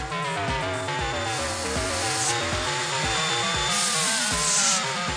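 A vacuum cleaner runs loudly and without a break, its steady whirring roar mixed with a wavering whine and rhythmic low thumps.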